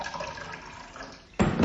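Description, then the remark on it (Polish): Water is poured steadily into a coffee machine's reservoir while making coffee, a continuous splashing trickle that abruptly grows louder and fuller near the end, with no voices. “Czasem wystarczy dolać tam wody.”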